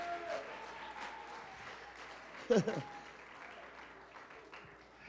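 An audience claps their hands in a steady, dense wash of applause that fills the room, with a brief loud vocal outburst rising above it midway through.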